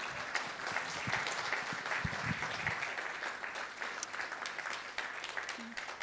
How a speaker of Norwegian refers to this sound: Du kan få lov att sätta dig ner. Vi kan ge teamet nog en gång en skicklig applaus.